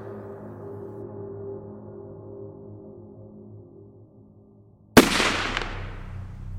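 A low, steady drone hums for several seconds. Then a single loud gunshot cracks sharply inside a chamber in a lost part of ancient Egypt and rings out with a long, echoing reverberation.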